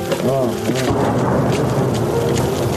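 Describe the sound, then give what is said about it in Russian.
A deep, rolling wartime explosion on the outskirts of Horlivka rumbles steadily for a few seconds, a loud low boom that lingers like thunder, with a brief voice-like tone early on. “Вот так автоматы стручат часто, а вот так вот взрываться, как сейчас, пореже.”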